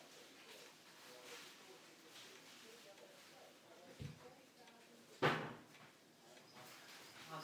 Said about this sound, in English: I've got caught on the drawer then.